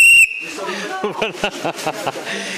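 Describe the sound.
A single short, shrill whistle blast rings out loud, then stops abruptly as a man begins speaking.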